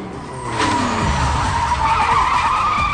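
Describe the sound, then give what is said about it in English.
Video game tire skids from a racing video game being played inside a car screech steadily for several seconds, a loud sustained squeal layered over a revving engine, with no voices present. “Danny's playing a racing video game inside his car.”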